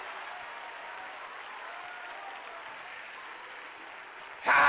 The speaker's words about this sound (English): Come on, clap your hands and take you about a 30-second praise break. Let the devil know, hey, I made it. Come on, you got to clap your hands like you sure enough mean it.